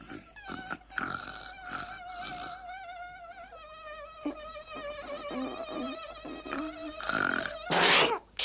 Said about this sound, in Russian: Марфушеньку, душеньку, комарики кусают, спать почивать мешают.